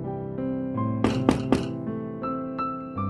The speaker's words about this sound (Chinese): 开门呀！ 叽叽喳在叩门，没有回应。